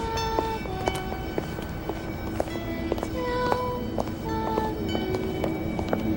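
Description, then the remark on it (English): A well-dressed woman's high heels click along a sidewalk in a steady walking rhythm, each sharp tap standing out over a constant low street hum and faint tonal background noise. “A well-dressed woman walks by, and Patrick turns at the sound of her heels.”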